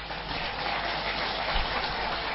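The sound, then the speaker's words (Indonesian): An audience applauds, a dense, steady wash of many hands clapping at once, fairly loud and sustained for a couple of seconds without anyone speaking. “Nah, sing tepuk tangan ketoro bayarannya didik.”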